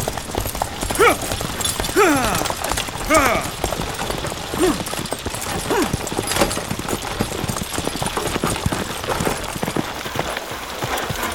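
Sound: horse approaching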